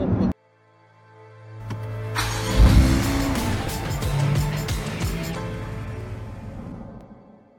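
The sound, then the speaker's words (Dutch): A car engine revs up from a low idle hum into a loud roar as it accelerates, then holds a steady, throaty drone that slowly fades. “Topper. Wat een wagen.”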